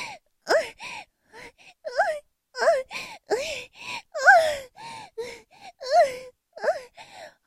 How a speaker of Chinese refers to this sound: 高潮之后，压在哥哥的身上喘息，好舒服呀。